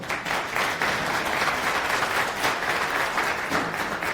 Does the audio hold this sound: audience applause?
yes